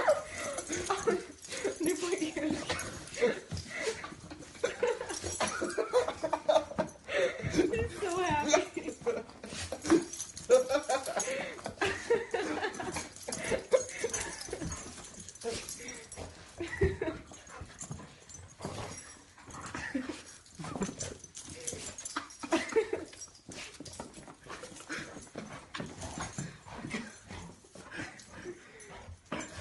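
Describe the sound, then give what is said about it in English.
An excited dog whimpers, yips and barks almost nonstop, fairly loud, with voices talking faintly in the background, as its owner comes in dressed as Gumby. “And the dog just goes crazy.”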